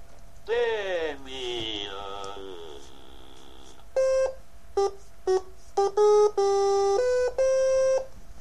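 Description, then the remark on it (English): The DeckTalk speech synthesizer gives a short warbling, gliding electronic utterance, then a sequence of steady synthetic tones: short and long beeps, about eight, stepping between a couple of pitches, moderately loud. “It seems like DeckTalk is pretty unresponsive when it comes to tones.”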